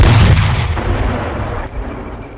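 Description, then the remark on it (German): A heavy tank cannon blast in a video game, a loud booming report that rumbles and decays over a couple of seconds, with no voices. “Rakete. Quatsch. Kanone ausrichten.”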